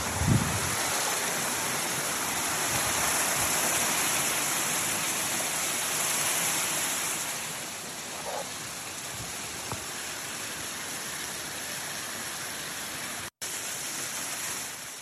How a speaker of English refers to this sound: So that water is about 160. I think I said Fahrenheit. Very warm water. So this is the main area, spring. And we would sit underneath the water flow. It's really nice, but very rich in minerals. I'll just let it go here for just a moment.